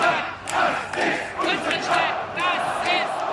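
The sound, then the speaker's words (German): A large crowd of demonstrators in Chemnitz, Germany, including right-wing hooligans and Pro Chemnitz supporters, shouts and chants together in a loud, continuous roar, with individual raised voices rising above the mass in rhythmic, rally-like calls. “Auch rechte Hooligans und Anhänger von Pro Chemnitz rufen zu Demonstrationen auf.”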